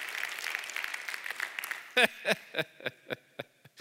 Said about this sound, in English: Let's just give the Lord a hand clap because he is good.